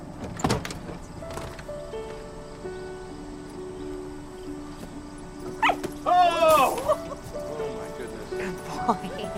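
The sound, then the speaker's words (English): A dog gives a couple of short, high-pitched barks and yelps partway through, over a steady background hum with some muffled voices and clatter. “could we go to the dog?”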